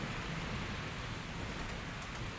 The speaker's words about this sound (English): Rain slicks the metal walkways of Hakame Prefecture on Polyphin, pooling in the cracks of plasteel and rusted grates.